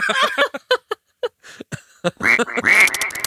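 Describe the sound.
A voice imitates the squeaking of latex rubbing together as someone walks: squeaky, quacking noises like a family of ducks, a quick series of short nasal honks that build into louder, buzzy quacks toward the end.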